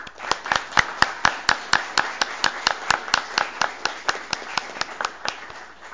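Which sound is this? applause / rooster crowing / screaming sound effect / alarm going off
applause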